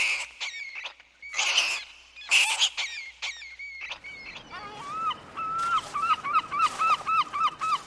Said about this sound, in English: The sounds of the sewer rats.